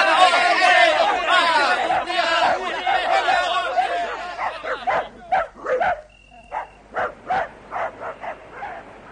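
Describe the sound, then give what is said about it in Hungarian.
Dogs bark and yelp in an excited, overlapping pack amid loud shouting voices as pursuers set the dogs loose on runaways heading for a river, then several sharp barks ring out in a spaced series as the commotion thins. “Eresztétek el a kutyákat!”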